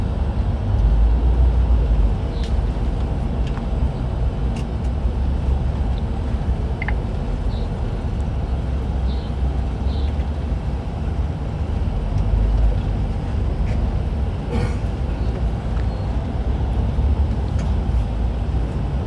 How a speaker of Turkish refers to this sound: Bu metrobüs şu an arkadaşlar trafiğe geldi. Şimdi köprüde normalde metrobüsü bilmeyen, ne demek olduğunu bilmeyen İstanbul dışında olan arkadaşlar için söyleyeyim. Metrobüs için ayrı bir yol var. Yani o herhangi bir trafiğe takılmıyor.